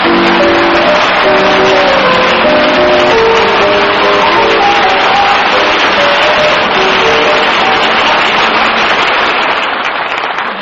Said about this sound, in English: Our audience just told you that with their applause.